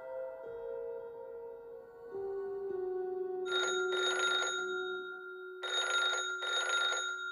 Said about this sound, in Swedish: Vid lunchtid ringer telefonen på Sveriges konsulat i Tallinn.